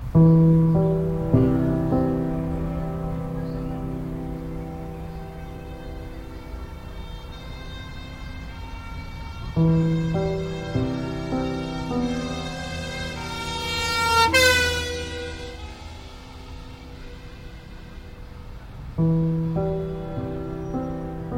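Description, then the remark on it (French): Loud, sustained emergency vehicle sirens blare with strong harmonic tones, repeating in long cycles about every ten seconds, with a horn-like blast and rising pitch midway, with no voices. “Aujourd'hui, 3e épisode, des sirènes partout.”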